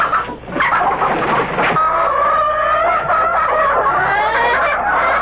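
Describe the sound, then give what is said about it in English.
Several chickens cluck and squawk, a busy, continuous flurry of calls with drawn-out, wavering cries running through the second half. “Sheriff, I bought them chickens cash money.”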